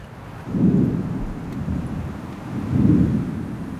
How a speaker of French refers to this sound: Là, ce que t'entends, c'est les coups de foudre. Le son en lui-même, s'il est extrêmement sec et bref, c'est que c'était un coup de foudre extrêmement puissant et proche.